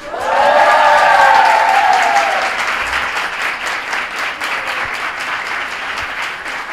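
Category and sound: crowd, audience applause and ovation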